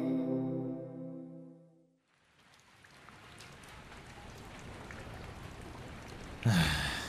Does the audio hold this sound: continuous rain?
yes